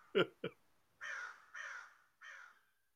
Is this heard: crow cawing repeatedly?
yes